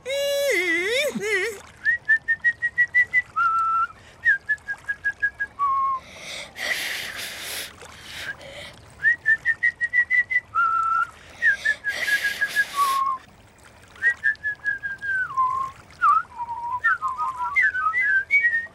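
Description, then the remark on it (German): Someone whistles a series of clear melodic phrases with short pauses between them, interrupted by a few breathy bursts and faint background sounds. “Bringt ihr mir jetzt das Pfeifen bei?”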